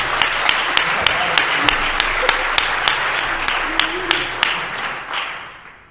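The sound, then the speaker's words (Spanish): People applaud a contestant's result in a quiz contest, clapping steadily for several seconds, the dense applause dotted with sharper individual claps, then gradually thinning and fading out at the end. Faint voices murmur underneath. “¡Un aplauso, por favor!”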